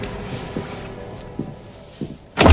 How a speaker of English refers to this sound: David comes back into his own house, looks through the glass, and then decisively locks the front door